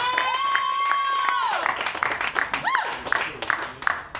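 A crowd claps steadily for several seconds as a performer is introduced for round two. The clapping is dense and fairly loud, while a long high whistle or whoop rings out over the applause and then slides downward.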